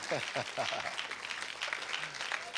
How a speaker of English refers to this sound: Y'all can clap in the middle too. You can clap over there. It's okay.